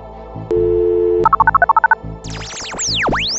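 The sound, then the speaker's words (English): A steady phone dial tone, then a quick run of about ten keypad beeps as someone dials a guest, followed by swooping electronic tones as the call goes through. Clear, with no one talking. “Well, should we get him on the phone then?”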